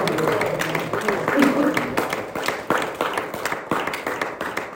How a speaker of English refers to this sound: If that resonates with anybody in this building, somebody give God about 10 seconds of praise and just clap your hands and praise the Lord, because he is our deliverer.